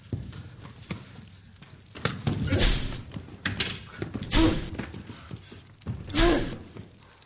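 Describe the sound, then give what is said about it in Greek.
Several heavy, booming thuds land about two seconds apart as people try to break down a door, each blow followed by a rattling crash, with muffled voices in the background. “Και θα σπάσετε την πόρτα?”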